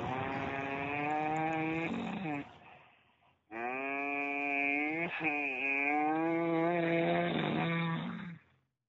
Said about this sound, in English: Last words of our beloved Time Cow. Such a terrible moo, too. It sounds like a moo that's like, you know, it's dying.